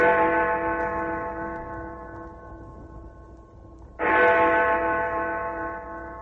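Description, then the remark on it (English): Big Ben, the clock-tower bell in London, strikes twice, each loud stroke ringing with rich, sustained harmonics that slowly fade before the second chime sounds, with no talking. “Listen to the voice of the most famous clock in the world, Big Ben.”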